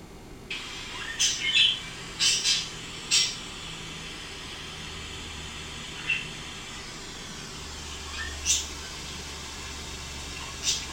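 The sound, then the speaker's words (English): Pet parakeets Dodger, Sparta and Bell let out harsh, shrill squawks in short clusters, then scattered single calls, over a steady soft hiss of falling rain on a rainy day. No one speaks. “And this one is called Parakeets and Raindrops.”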